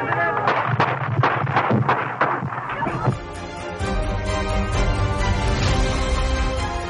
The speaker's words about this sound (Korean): 레이건 대통령이 막 자동차에 오르려는 순간 여러 발의 총성이 울렸습니다.